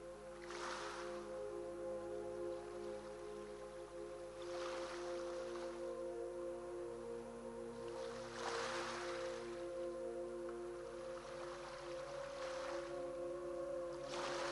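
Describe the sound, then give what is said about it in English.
Waves of the Red Sea wash ashore in steady surges about every four seconds, each swelling into a broad hiss and fading, over a constant low droning hum; no one speaks. “I haven't actually tried to part these waters just yet, but being here and standing in this place is actually really emotional for me.”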